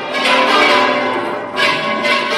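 Church bells of the Real Monasterio de Las Huelgas in Burgos, Spain, ring out loudly in the early morning of a festival, their overlapping strokes blending into a rich, continuous peal with fresh strikes every half second or so. No one speaks.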